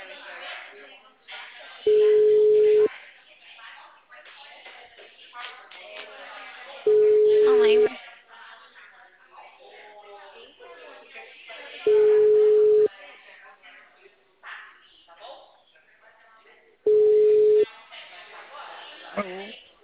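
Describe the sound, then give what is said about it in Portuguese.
A telephone line tone after a dropped call sounds four times, each a steady, mid-pitched beep of about a second, evenly spaced several seconds apart. Muffled voices murmur in the gaps between the tones. “ligação? Caiu.”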